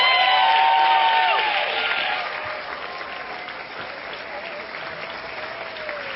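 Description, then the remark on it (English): An audience at the SIF film festival applauds the festival staff in a dense burst of clapping, loudest at the start and fading to a steadier, softer patter over several seconds, with a few faint whoops mixed in. “Please also give them a round of applause.”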